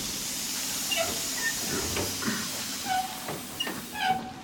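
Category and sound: vehicle, steam train hissing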